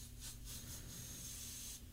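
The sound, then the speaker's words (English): Several quick bursts of spray hiss from a spray bottle being used for ASMR, in a loose rhythm over a low steady hum, with no one talking. “She's spraying like a bottle thing.”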